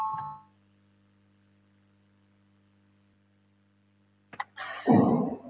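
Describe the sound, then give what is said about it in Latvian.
A parliament voting bell gives a steady, low electric tone that drones quietly for about four seconds after a brief ringing start, then cuts off with a click followed by a short burst of rustling noise; it is rung to call a vote on a transport minister's proposal. “Lūdzu zvanu, balsosim par otro satiksmes ministra Linkaita priekšlikumu”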